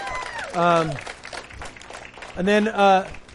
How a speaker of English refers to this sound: You can clap for that. That's good.